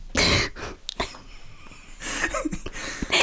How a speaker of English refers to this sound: Sorry, that's my whooping cough.